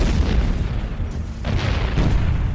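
Artillery shells explode over a small village at night in a rapid, overlapping barrage, heavy booms rolling one into the next with deep rumbling low end and sharp bursts, loud and continuous with no voices.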